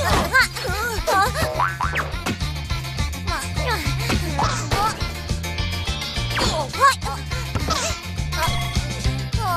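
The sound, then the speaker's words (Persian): Cartoon-style springy boings of a bouncing ball repeat over a busy, loud musical soundtrack with a steady bass beat, mixed with chirpy sliding vocal noises. “خیلی توپ شیطونیه، خیلی اذیت میکنه.”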